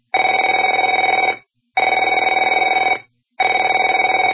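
A telephone rings in three loud, steady bursts of trilling electronic bell tone, each lasting over a second and separated by short silent pauses, with no voices.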